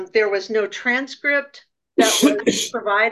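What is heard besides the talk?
sneeze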